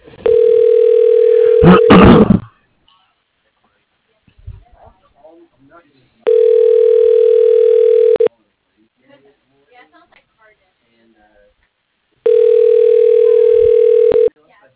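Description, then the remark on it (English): A phone line rings three times as a call is transferred to extension 101, each steady, low buzzing ring lasting about two seconds, separated by long quiet gaps holding only faint scattered sounds. “For your reference, you are being transferred to extension 101.”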